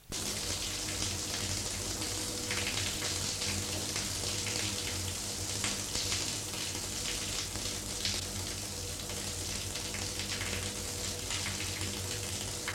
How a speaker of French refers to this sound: Il se trouve une salle de bain et prend sa douche en laissant la porte ouverte.